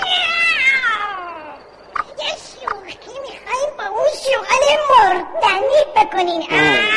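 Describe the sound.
A person imitates a cat with a drawn-out, falling meow at the start, then talks, with another short meow-like cry near the end.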